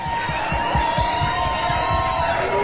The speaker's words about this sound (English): In the meantime, we'd like to ask you to give my man …, give them a nice round of applause, would you?